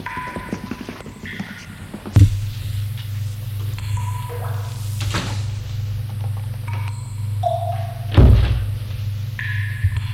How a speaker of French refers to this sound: Au bout du couloir se trouve une porte. Ils vont l'ouvrir.